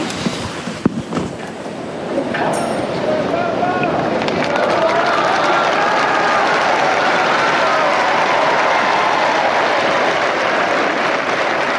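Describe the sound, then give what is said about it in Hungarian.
A large crowd of pilgrims breaks into sustained applause and cheering for Pope Francis, swelling after a brief, quieter opening and then holding a dense, steady roar of clapping and voices to the end. “A szokásos taps és üdvözlet szól a mai napon is Ferenc pápának, kifejezve ezáltal ugye az zarándokok az ő hálájukat, az ő köszöntésüket.”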